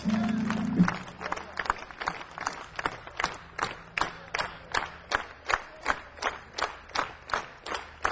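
An audience, asked by a performer to clap their hands, claps together in a steady, even rhythm, about two sharp claps per second for several seconds, with a faint murmur of voices underneath.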